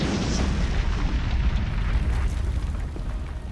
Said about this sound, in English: As they near the exit, they hear a terrific explosion.